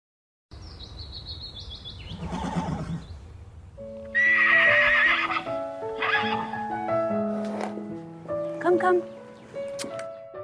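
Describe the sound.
A horse whinnies loudly, while the sharp clip-clop of hooves and a few faint chirping birds fill the background, with a person's voice briefly audible.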